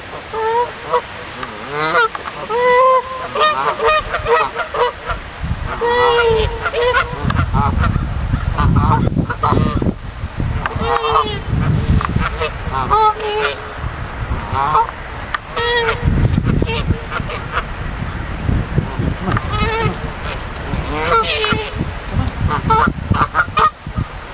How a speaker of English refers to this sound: Geese.